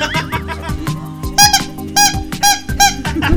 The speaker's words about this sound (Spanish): Esa es la trompeta, digo, la que suena, claro. Pues esta ya nos ayuda un poco para no gastar mucha garganta. O sea, por ejemplo, usted grita bolillo like tocando la trompeta, haciendo una armonía musical.